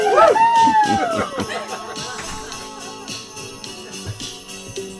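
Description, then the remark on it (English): An audience at the Shakespeare and Company bookshop in Paris cheers and shouts in a dense, noisy burst. It starts loudest, with a high whistle-like squeal near the beginning, then settles into a steady, slightly fading roar of many voices. “This is where you cheer.”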